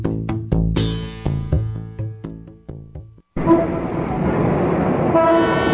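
Loud car horns honk repeatedly in a rapid, overlapping series in street traffic at a corner with a hospital, then cut off and give way to a steady wash of busy traffic noise.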